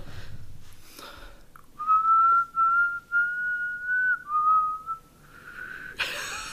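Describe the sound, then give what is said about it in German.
Someone whistles a short tune, a clear sustained pitch gliding through a few notes for about four seconds, with faint rustling before and after. “Also wenn ich das wusste, dass das gepfiffen werden wird, hätte man teilweise vielleicht eine andere.”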